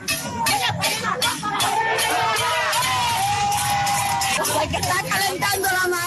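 Residents of Campechuela, Granma province, shout and chant together at a night-time pot-banging protest demanding restored electricity, over a steady clatter of metallic banging, voices rising and overlapping in a loud, continuous din with no pause for the whole stretch.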